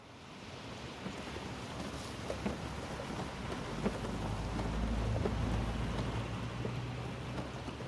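Heavy rain pours down steadily, a dense hiss of drops, while a low rolling rumble of thunder swells in the middle and fades. No voices.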